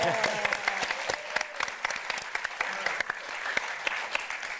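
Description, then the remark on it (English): An audience claps steadily for several seconds for the performers, dense overlapping hand claps with a few sharper individual ones standing out, moderately loud. “Also, just before we start, another round of applause for our wonderful performers at the top of the show tonight.”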